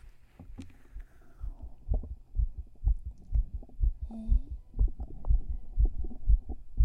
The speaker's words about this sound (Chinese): 哎，你怎么心跳的这么快？